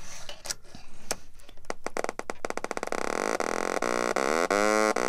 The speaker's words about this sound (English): So what I have is a power bit, which is blue, and I'm going to snap it into an oscillator, which is generating the sound wave, and a speaker. And now I'm tuning the oscillator.